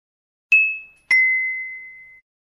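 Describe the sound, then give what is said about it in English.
A bell rings twice, a short clear ding followed by a second strike that rings out and fades over about a second. Bright, with no voices. “He is doing his homework, but the bell rings.”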